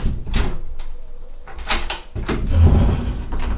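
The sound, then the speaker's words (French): Several heavy knocks land on the large door of a castle at an uneven pace. Then a butler swings the door open with a low creaking rumble, loud, with no talking. “Arrivé au château de la princesse, il frappe à la grande porte. Un majordome ouvre la porte.”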